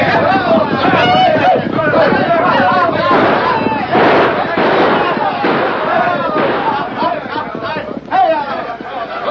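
In a wild Old West town without a name, a rowdy crowd of working men on a spree shouts and hollers continuously while sharp, cracking gunshots pop off repeatedly in a loose, irregular rattle, loud, with a chaotic, festive din throughout.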